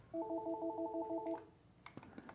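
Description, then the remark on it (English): A telephone rings with a rapid electronic warble of evenly repeating two-tone pulses for just over a second, then stops, followed by faint clicks and rustling with no talking. “sorry, we had a phone ringing in our,”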